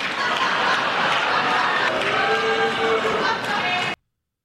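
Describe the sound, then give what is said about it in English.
Steady, dense applause from Democrats in a legislative chamber during a Donald Trump speech, at his line about keeping the Ukraine war going for another 5 years, fills about four seconds, with a crowd of voices murmuring and calling out underneath, then stops abruptly into silence. “Because Donald Trump actually did get an applause line out of Democrats last night.”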